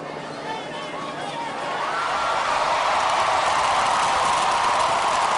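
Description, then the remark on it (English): A large crowd's steady roar swells louder after the first couple of seconds into a sustained cheer with a dense babble of voices, with no single speaker standing out, as the Confederate battle flag is taken down. “Hear the flag coming down. You can hear the crowd.”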